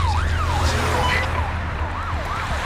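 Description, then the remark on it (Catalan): An ambulance's siren wails as it drives with emergency lights on, its pitch sweeping up and down repeatedly over a steady low rumble of road traffic, fairly loud and continuous throughout. “Una ambulància circula amb els llums d'emergència.”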